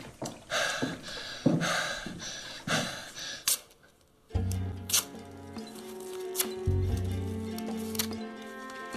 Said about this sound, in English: April sits up quickly and gasps for breath as Pearl leaves the bathroom.